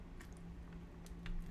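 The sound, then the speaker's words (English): A few soft sips and wet mouth sounds from drinking water out of a little glass, brief and quiet over a steady low electrical hum, with no talking. “Sorry, I had to get a little glass of water there.”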